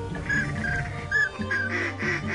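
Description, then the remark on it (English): A green-headed mallard drake calls to a female in a quick series of short, nasal quacks, clear, repeating about six or seven times over a low steady background rumble, during a duck hunt in Colusa. “That's a mallard's green head calling the female.”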